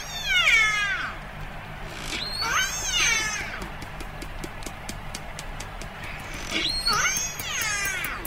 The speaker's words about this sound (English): That's called a biphonic call. We can play one of those for you. It's really interesting. Now, this is a family-specific call, and it's a biphonic call, meaning one animal is making a low frequency and a high frequency call at the same time.